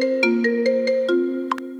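A phone ringtone plays a bright, tonal melody of sustained notes with rhythmic clicky accents, steady and fairly loud, with no voices over it.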